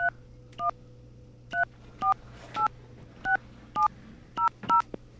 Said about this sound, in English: Nothing seems to match this, so I'm going to demonstrate this on the airwaves here, if I can just get a damn dial tone. Okay, there we go. We're going to call their number.